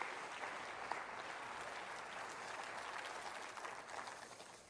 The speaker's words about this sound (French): Quelqu'un devrait applaudir la possibilité de Dieu.